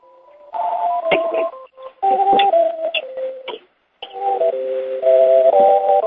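Tinny, jaunty circus music plays through someone's phone speaker during a meeting, a bouncy melody of stepping notes that cuts out briefly twice before resuming, steady and moderately loud with no talking over it.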